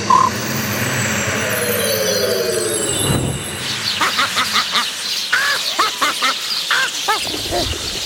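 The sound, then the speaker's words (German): After a soft whooshing swell, a flock of sparrows raining down from the sky bursts into loud, busy chirping, with many quick overlapping tweets and no voices. “Es sollte Honigbrot regnen, keine Spatzen.”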